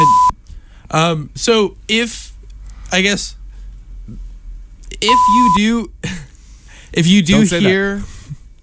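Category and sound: signal or alarm, censor bleep tone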